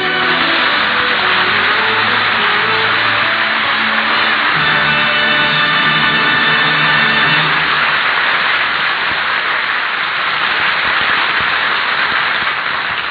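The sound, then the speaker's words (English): A car engine revs loudly and pulls away, its pitch climbing as it accelerates, then fades into a steady rushing drone of driving for several seconds. There is no talking. “We'll get the car and drive you out to the old Indian's house.”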